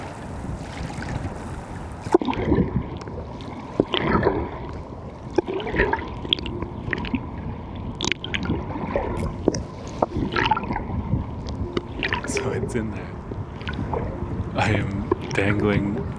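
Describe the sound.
River water on the Hudson River laps and sloshes steadily around a small boat, with irregular knocks and splashes against the hull, light wind noise on the microphone, and faint, muffled voices in the background.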